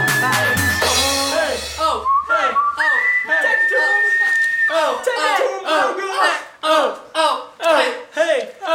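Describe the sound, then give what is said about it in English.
A bright whistled melody rides over a busy, loud music track, with sustained whistled notes and shouting voices or crowd noise mixed in, ending in rhythmic, punchy bursts. “I like the whistling track.”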